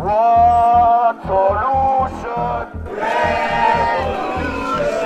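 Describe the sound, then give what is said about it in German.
A May Day protest march of about 300 people in Biel at midday, moving from Bahnhofsplatz to Tiefauerstrasse: many voices chant together over a steady, pounding drumbeat, loud and continuous, with the chant swelling stronger in the second half. “Die Gang fährt Bieler 1. Mai 4 am Mittag mit einem Umzug an. Etwa 300 Leute ziehen vom Bahnhofsplatz zur Tiefauerstrasse.”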